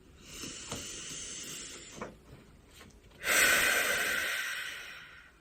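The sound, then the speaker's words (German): A slow, deep breath drawn in with the left hand on the heart, followed by a long, loud, breathy exhale that fades out, with no talking. “Nimm mal deine Hand, deine linke Hand, intuitive Hand, auf dein Herz und atmen wir mal zusammen tief ein und aus.”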